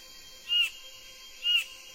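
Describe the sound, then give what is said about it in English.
Two short, sharp calls from a superb bird of paradise calling for a mate ring out about a second apart, each a brief high-pitched burst over a quiet, steady background hum, with no voices. “A superb bird of paradise calls for a mate.”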